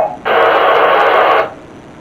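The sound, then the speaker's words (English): A loud burst of radio static hisses for just over a second, starting abruptly and cutting off, with a thin, band-limited crackle and no voices around it. “I heard loud static from over here.”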